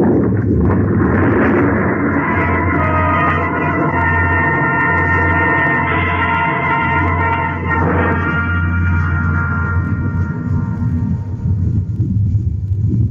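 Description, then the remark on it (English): A massive avalanche of snow and ice from a ridge sweeps down toward a valley, rumbling as one loud, unbroken roar, heavy in the deep low end, with a grinding, churning texture that shifts midway and keeps going to the end. “It must have been the shots that loosened the snow and ice on the ridge above.”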